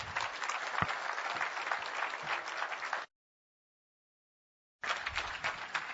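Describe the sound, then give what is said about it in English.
An audience applauds warmly to welcome a speaker, a dense wash of many hands clapping for about three seconds, then a brief silent gap before the clapping resumes at similar strength. “I know we don't clap much, but he is my friend. So let's just welcome Christian Harris.”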